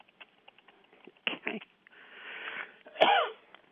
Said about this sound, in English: Okay. And sorry about the cough. No, no worries. A lot of people had it this time of year.